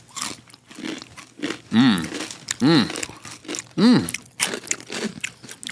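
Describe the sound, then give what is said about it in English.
Loud crunching of crispy fried pork rinds (chicharrones) in a steady run of sharp bites and chews, broken by a few short, rising vocal sounds between mouthfuls. “Crazy crunch.”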